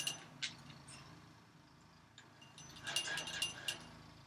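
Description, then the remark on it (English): A wooden toy with bells is pulled over her perch and dragged about by Sparty, a pet bird, giving scattered metallic jingles and rattles: a brief burst at the start, then a busier cluster of clinks later on, with no talking. “Sparty has a wood toy that she drags and pulls around, and so now she's pulled it over her perch, and so that she's dragging it around, and you kind of hear that.”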